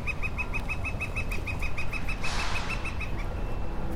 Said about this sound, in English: And that woodpecker agrees.